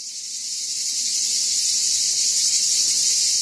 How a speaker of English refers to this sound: That's the sound. You recognize it? We're talking about the cicada. That's the sound that we all know. And we're going to hear a lot of it this summer. And they are loud.